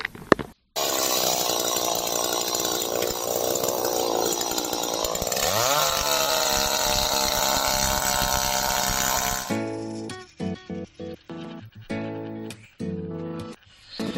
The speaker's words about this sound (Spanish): Bueno, sonidos de motosierras, sonidos de tijeras, estas mañanas frías y nebulosas son las más indicadas para la poda.